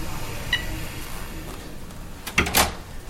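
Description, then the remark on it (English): The automatic door of the Steve Sailing ALS Residence, an ALS floor of a nursing home, opens with a brief mechanical whoosh and clunk near the end, triggered by a signal from Sailing's computer, over a low, steady background rumble, preceded by a faint click. “Sailing opens the door with a signal to his computer.”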